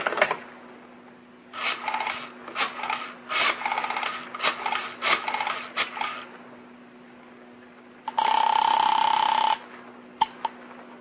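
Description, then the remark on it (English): A telephone being dialed, a run of short mechanical whirring bursts, followed by a single steady electronic ring that lasts about a second and a half, then a couple of soft clicks. No voices. “will you phone your mother or must I? All right. I'll do it.”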